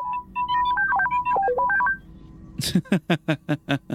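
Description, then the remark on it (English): The droid T3M4 aboard a ship chirps out a quick run of electronic beeps and bloops hopping up and down in pitch, followed by about six rapid, raspy bursts in a steady rhythm. “Of course, T3M4 will have not a whole lot of nothing to say, but let's hear those beep and bloops.”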